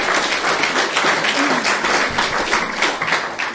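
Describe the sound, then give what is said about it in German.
Audience applause: a steady, dense crackle of many hands clapping at once, fairly loud and even for a few seconds, with no voices over it. “Ja, das ist fast Applaus wert, diese Geschichte von mir.”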